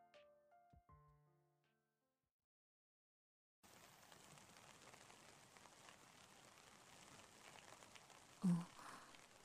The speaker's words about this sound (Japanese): 雪かな。いや、雨だな。